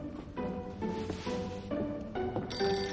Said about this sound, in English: picks up the reception phone.